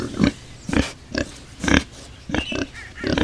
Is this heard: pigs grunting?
yes